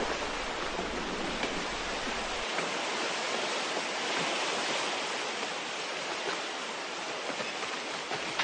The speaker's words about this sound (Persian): رودخانه بد جوری خروشید.